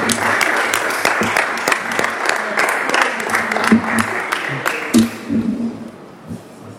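An audience breaks into steady applause after a unanimous election, a dense stream of many hands clapping that holds strong, then thins and fades toward the end, with a few scattered claps and faint murmurs.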